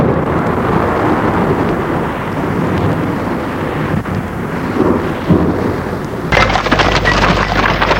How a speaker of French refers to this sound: Ils sont sur la route. L'orage est toujours aussi fort.